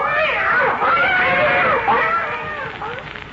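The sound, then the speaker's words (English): A cat meows and caterwauls loudly, a continuous wavering yowl with rising and falling pitch sweeps that swell and dip for a few seconds. “And that's why I have become an aerophobe, a cat hater.”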